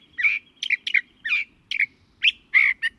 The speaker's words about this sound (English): In spring, they bloom profusely and beautifully. The chaparral comes alive then with the songs of birds, among them this California thrasher.